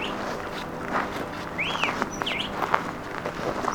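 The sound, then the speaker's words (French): Birds chirp in the mountains of Chile in short, scattered bursts, a couple of clear rising-and-falling tweets standing out from a steady outdoor hiss, with faint rustling and light tapping in the background. “Il y a des fleurs, des fruits, des jardins, des arbres, des oiseaux, des maisons.”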